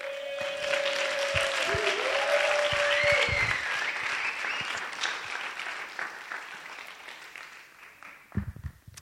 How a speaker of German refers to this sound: Und jetzt gebt bitte nochmal Waldemar einen fetten Applaus.